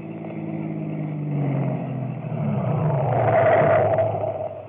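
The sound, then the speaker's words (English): A car approaches along the road, its engine hum steadily rising in pitch and loudness as it draws nearer, with a low rumble building to a peak near the end. “Car coming down the road.”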